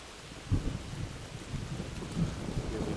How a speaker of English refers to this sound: That, my friends, is the sound of rain. The sound, and that was lightning. So any second now, we should hear a thunderclap.